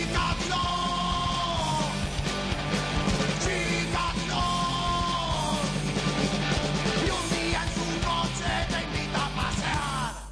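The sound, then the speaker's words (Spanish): A loud, dense rock-style song plays steadily in the background of a studio broadcast, with strained, shouted-sounding vocal lines soaring over a thick wall of instruments and a constant low pulse. “Escuchamos esta canción que está sonando de fondo”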